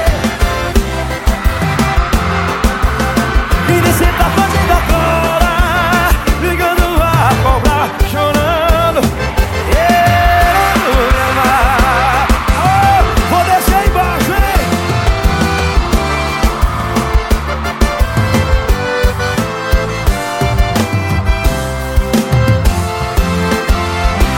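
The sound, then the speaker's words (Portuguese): A sertaneja country song played by a DJ plays loudly and continuously for the whole stretch, with a full band, steady rhythm, and a melodic sung line running over the accompaniment. “Ótima moda sertaneja que o DJ tocou.”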